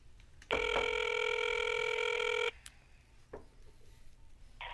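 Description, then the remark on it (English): A single ringback tone on an outgoing prank phone call, a steady buzzy electronic ring lasting about two seconds, followed by a quiet line with a few faint clicks. “Making a call.”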